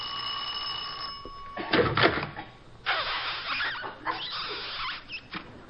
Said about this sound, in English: There. Now it's really dark out here. I'll ring the bell.